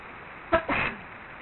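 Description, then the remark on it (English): A single arrow loosed from a bow: a quick sharp twang followed by a brief rushing whoosh, moderately loud, then quiet with no one talking. “You give me an arrow, like a bow and arrow? Firing an arrow.”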